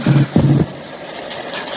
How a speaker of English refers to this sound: The engine stopped. Yeah. Yeah, she's drowned out.